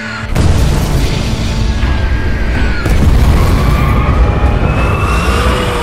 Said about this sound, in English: Churchill would continue touring the destruction, refusing to head for safety, even as the blazing buildings provided targets for the next wave of attack. And the bombs did fall.